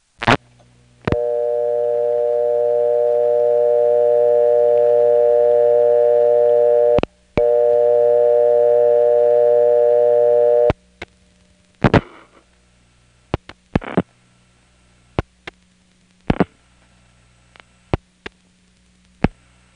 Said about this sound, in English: two frequencies that you need, 440 and 480, are there, you can also hear the 20 hertz ring current mixed in with it. Well, the Bell System has a lot of Crossbar 5s with fake modern tones, and there's one in the downtown Raleigh building, the 8-2s.